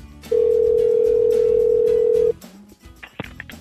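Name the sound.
telephone call ringing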